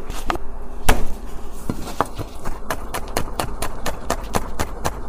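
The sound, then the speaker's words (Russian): A knife finely chops garlic on a cutting board while preparing a shrimp sauce for pasta, with a few scattered sharp taps at first, then a steady, quick rhythm of crisp knocks, with no voices. “Мелко нарезаем чеснок и подготавливаем креветки.”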